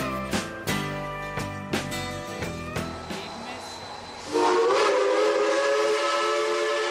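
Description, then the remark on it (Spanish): A model train clicks along its track in a steady, uneven clatter, then a loud, sustained whistle blows and holds to the end, with a hissing edge underneath. “El músico también diseñó un control remoto que permite que varios trenes corran simultáneamente y emitan sonidos”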